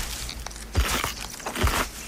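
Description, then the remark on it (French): Crisp celery crunches mimic footsteps on a forest floor: two heavy, crackling steps with soft thuds, spaced under a second apart, over a faint rustling background and no voices. “Hey, la promenade en forêt que vous entendez a été faite avec un céleri parfaitement croquant.”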